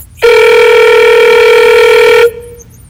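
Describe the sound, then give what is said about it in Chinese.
A telephone rings with one loud, steady electronic tone as a call is placed to a mother; the tone holds for about two seconds and then cuts off abruptly, with no one talking. “打电话给妈妈，结果是妈妈。”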